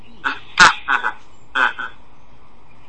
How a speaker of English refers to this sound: And I'm hoping the noisy birds aren't going to interfere with our lesson.